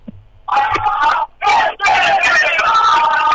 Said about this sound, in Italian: E allora sentiamo l'urlo dei calciatori.